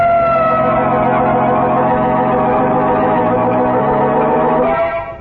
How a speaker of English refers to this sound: What's that? Sounds like... Yeah, it's the police.